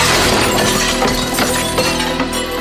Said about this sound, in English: He breaks a glass coffee table.